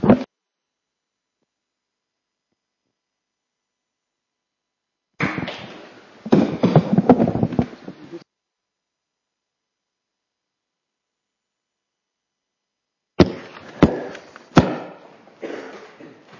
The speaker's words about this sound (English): round of applause